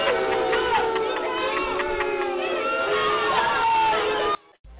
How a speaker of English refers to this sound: If I get booed like that in the club, we fighting. I'm doing comedy, somebody booed like that, I'm fighting because I'm like, you think my comedy is too personal for me going to me like that?